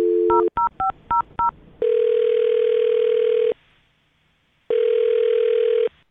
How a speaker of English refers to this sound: Okay, well, here we go. I'm dialing her phone number right now.